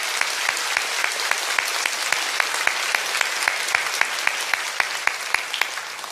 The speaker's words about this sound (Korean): 우리 분당과 수지에서 구리 채플과 필그림 하우스에 계신 모든 성도님들에게 큰 격려의 박수 부탁드립니다.